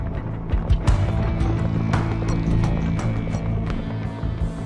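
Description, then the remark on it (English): A Belgian draft horse of the Brabançon breed trots along, its hooves clip-clopping in a steady, slightly uneven rhythm over a continuous low rumbling background, the hoofbeats crisp. “Belgian horses have a cheeky stride and can run in an energetic, laid-back trot.”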